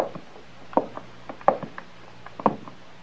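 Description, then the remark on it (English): Several sharp knocks on a door, spaced irregularly over a few seconds, clear against a quiet background with no talking. “You go first, and when the coast is clear, knock on the door once.”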